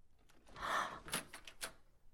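A door opens with a soft rushing swell, followed by a few sharp clicks and knocks of the latch and frame, all fairly quiet with no voices.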